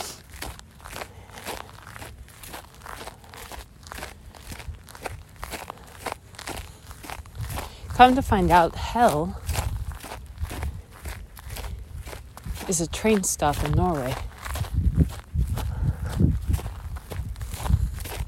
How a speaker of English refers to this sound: Well, not the grassy parts, but that part of walking on the snow in Norway.